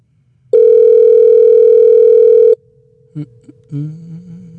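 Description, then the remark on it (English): A loud, steady telephone dial tone drones for about two seconds, then cuts off, leaving a faint lingering hum followed by a couple of soft clicks and low rustling noises. “Let me just try one more time. Sure. Tones off! Tones off!”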